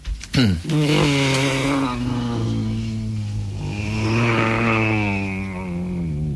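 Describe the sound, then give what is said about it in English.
A person hums a sustained, buzzing drone imitating an airplane engine, holding a steady low pitch that wavers slightly and swells in loudness before easing off, lasting several seconds. “Which is the noise for a plane.”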